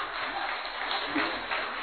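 An audience applauds a man who has just introduced himself, steadily for about two seconds, a dense, continuous wash of many hands clapping at once, moderately loud and with no break in the sound.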